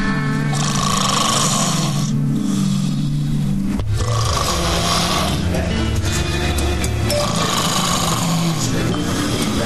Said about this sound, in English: She was snoring so damn loud.